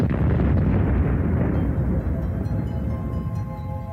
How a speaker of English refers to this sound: When we have big stars, they don't live very long. Relatively only maybe a few million years, up to 40 million years. But they end their life in a huge explosion, which we call the supernova.